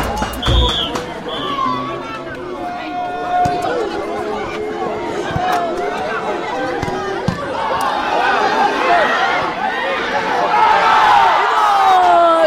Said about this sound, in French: L'entrée des joueurs, les joueurs font leur entrée au terrain, voilà, on peut entendre leur joie, ça crie et puis voilà, on démarre.